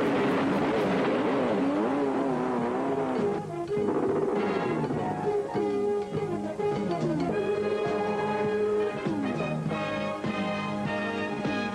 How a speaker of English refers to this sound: a souped-up jet-propelled motorcycle.